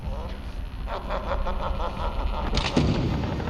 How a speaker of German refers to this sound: Hinter ihm knallte das Tor wieder zu.